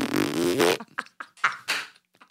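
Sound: fart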